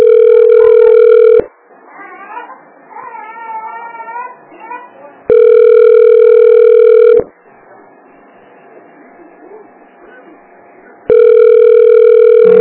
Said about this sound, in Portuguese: Pra atender esse telefone é uma dificuldade, né?